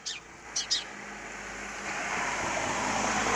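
Outdoors during a walk in a rural area among shrubbery, a couple of quick high bird chirps sound at first, then a car passing by makes a broad rushing whoosh that swells steadily louder through to the end. No one speaks.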